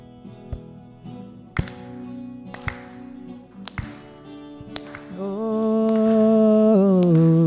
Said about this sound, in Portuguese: A gente vai pedir que vocês ajudem com palmas, amém?